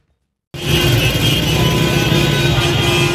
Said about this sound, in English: Car horns blare as Syrians celebrate the announcement of an agreement between Kurdish fighters and government forces to help fend off Turkey's incursions into the country's north.